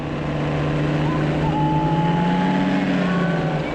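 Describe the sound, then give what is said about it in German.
The engines of two small ultralight aircraft being started at the airport in Binningen in the early morning run with a loud, steady buzzing drone, their pitch wavering slightly as they idle and rev together, with no other sounds standing out. “Am Flughafen in Binningen starten die beiden Ultraleichtflugzeuge am frühen Morgen ihre Motoren.”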